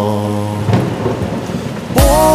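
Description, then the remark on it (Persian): Steady rain hisses beneath sustained musical tones, with a thunder crack near the start and a louder rumbling burst toward the end. No one speaks. “بارونه دل من آرومه، وقتی نباشی دل آشوبه.”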